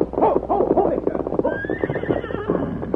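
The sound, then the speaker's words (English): A runaway horse neighs loudly and shrilly as it is pulled up by its bridle, its whinny rising and wavering over a few seconds, with a faint clatter of hooves and busy background commotion. “Dan, reaching out, grasped the runaway's bridle”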